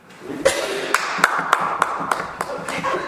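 Scattered, sparse clapping from a small group at a meeting: about eight sharp, moderately loud claps spread unevenly over three seconds, with a low background murmur underneath.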